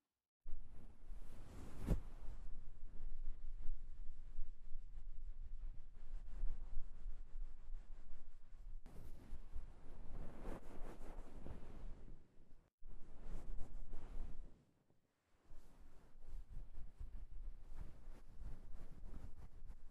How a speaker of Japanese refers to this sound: 一旦タオルで泡を取っちゃいますね。